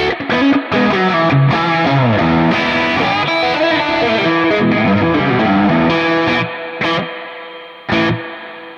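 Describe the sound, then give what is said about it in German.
A driven electric guitar plays a busy run of chords and single notes through a Lush Spring spring reverb pedal, loud, with ringing tails as it stops and restarts near the end. No talking. “Ich habe hier jetzt so einen Lush Spring.”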